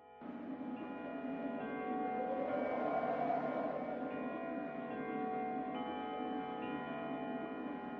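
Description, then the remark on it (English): Church bells of a neighboring church ring in a steady, overlapping wash of resonant tones that hang in the air, striking the four quarters and then the hour, the heavy bell going on to twelve. Fairly loud and continuous for the whole stretch, swelling slightly midway, with no voices. “When Scotty awoke, the chimes of the neighboring church had struck the 4 quarters, so he listened to the hour.”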